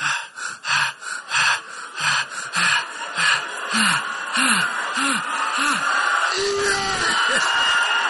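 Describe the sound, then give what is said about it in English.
Fast, heavy breathing with sharp gasps and rising moan-like sighs, loud, quickening into a breathless rhythm with no words spoken. “And the heart, the breathing.”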